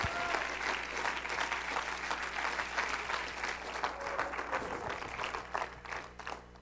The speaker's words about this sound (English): Somebody give him a hand clap of praise tonight.